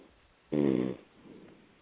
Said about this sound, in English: snoring, so that's that's what it was.